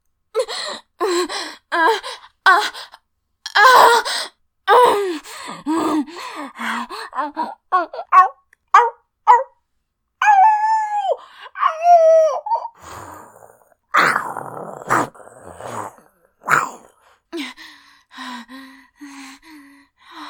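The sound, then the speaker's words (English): A human voice lets out drawn-out, wavering howls like a wolf during orgasm, mixed with sharp gasps and breathy cries. The sounds are loud, coming in uneven bursts with short pauses. “No, I didn't howl on purpose.”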